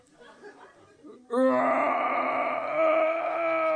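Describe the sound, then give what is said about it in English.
After a second of faint, low rumbling, a voice lets out a loud, sustained groaning roar imitating a bear giving birth. It holds steady and strained for over two seconds. “Pushing in, we hear the roars of a bear giving birth.”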